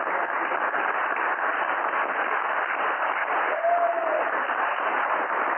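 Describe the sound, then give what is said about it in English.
A crowd applauds the firemen and EMS people steadily, a dense, even wash of many hands clapping at once that holds a constant, fairly loud level throughout, with a brief faint whistle-like tone partway through. “I think we also need another round of applause for the rest of the firemen.”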